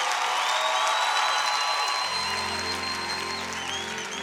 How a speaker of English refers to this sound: Can you give Jesus one more time a round of applause? Come on in this place, hallelujah. Can we give Jesus a correct, wonderful hand of applause in this place?